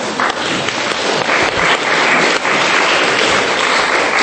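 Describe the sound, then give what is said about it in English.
An audience claps steadily for about four seconds, a dense, even patter of many hands at a fairly loud level with no voices over it. “So, I don't know, you probably deserve a clap for that.”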